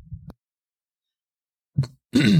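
A few separate coughs break a quiet stretch: a low, muffled one first, then a sharp short hack, and finally a longer, harsher, raspy cough that fills the end.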